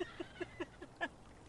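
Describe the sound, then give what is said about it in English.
A bird gives a quick series of five or six short, hoarse calls at an even pace, the last one higher and stronger, faint and alone without any talking. “Poor fucking bird.”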